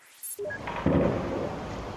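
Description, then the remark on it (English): Gunfire over the city of Latakia, Syria: a sharp report kicks off, then a loud, rolling burst of shooting booms and echoes continuously across the open air, with no voices. “This is believed to be the sound of gunfire over the city of Latakia, where nearly 30 people have reportedly been killed by gunboat shelling.”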